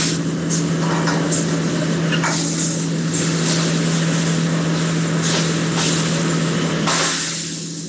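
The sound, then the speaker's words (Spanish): Construction site noise in Quilicura: a steady machinery drone with a constant low hum under a broad roar, broken now and then by brief harsher bursts, with no voices. “Claro, son ruidos de sonido de obras, de estructuras, de levantamiento, qué sé yo, el uso también de los mismos trabajadores, que también los mismos obreros que se encuentran también suben un poquito más el tono”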